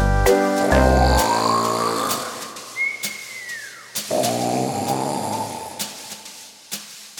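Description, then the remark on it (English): A voice imitates a big black bear snoring as it sleeps: a deep, buzzing snort rises into a wavering whistle, then a second whistling breath follows. Loud and alone, with no talking. “Soundly sleeping is a big black bear. Snuggled with his blanket on the floor. Can you hear him snore?”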